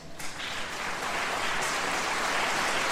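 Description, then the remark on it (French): A concert audience claps together to thank a priest, a dense, steady wash of applause that swells slightly after the first second and holds strong to the end, with no talking over it. “je voudrais qu'il vienne à mes côtés, qu'on l'applaudisse bien fort.”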